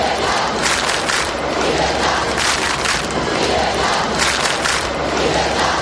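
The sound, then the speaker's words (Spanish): A massive crowd of thousands at one of the largest rallies remembered in Bilbao, in the Basque Country, chants loudly in unison, the roar rising and falling in repeated rhythmic surges, a dense wall of many voices with no single speaker standing out. “En Bilbao, en una de las concentraciones más multitudinarias que se recuerdan, vence un grito al unísono.”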